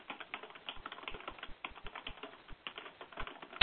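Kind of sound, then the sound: household object, typing on a keyboard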